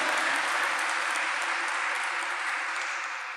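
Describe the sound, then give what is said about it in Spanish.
A crowd applauds the word of God, clapping steadily, many hands blending into a dense, continuous wash that holds at a steady loudness for about three seconds and eases off slightly at the end, with no talking. “Vamos a darle un aplauso a la palabra de Dios que nos está dando semejante promesa.”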